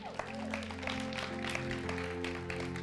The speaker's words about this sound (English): Because of your generosity, we begin to see people who are struggling in addiction of alcoholism find sobriety. We can clap for that.